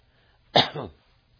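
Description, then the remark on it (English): A single raspy cough quickly followed by a rougher throat-clearing rumble, one brief burst, from a preacher while preaching. “I used to preach 4 hours without taking a drink or coughing.”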